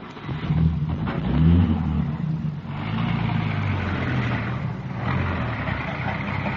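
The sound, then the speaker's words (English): A police radio car's engine turns over and catches, then revs steadily and pulls away, its low rumble rising and shifting in pitch as it drives off, with no voices. “Here's the radio car.”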